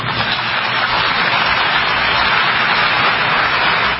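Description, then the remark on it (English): A large audience applauds continuously after President Biden's speech, with Ukrainian President Volodymyr Zelensky among those applauding; a dense, steady wash of clapping that holds at an even, loud level throughout without any voices breaking through. “And part of that applause was from Volodymyr Zelensky, the president of Ukraine, who was in the audience for Biden's speech.”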